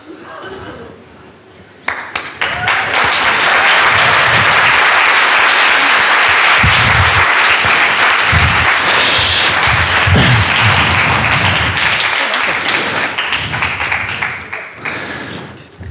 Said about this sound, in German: Nochmal einen Applaus. Dankeschön.